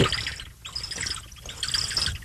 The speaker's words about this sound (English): She carries a whole gallon of water around. But I can't drink it on the air because it makes too much noise.